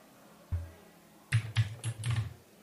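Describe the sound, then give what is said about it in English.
Vigorous typing on an Annie Pro 2 mechanical computer keyboard: one key thump, a short pause, then a quick burst of several sharp, clacky keystrokes in an uneven rhythm, with no voices. “I hear vigorous typing noises.”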